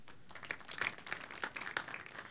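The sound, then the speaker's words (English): An audience at a programming session claps to vote on whether styles are easier in CSS or in XAML, a scattered, moderately quiet burst of applause, many overlapping hand claps forming a steady crackling patter for a couple of seconds, with no voices over it. “For me, it seemed like there was more of a clap for CSS.”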